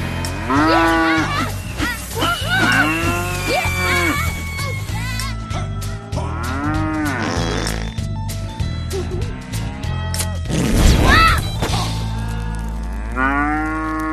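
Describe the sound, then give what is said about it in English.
Several cows on a farm moo loudly and repeatedly, long drawn-out bellows overlapping one after another, over a steady low background rumble. “I learned cows don't find bottle rockets as funny as I do.”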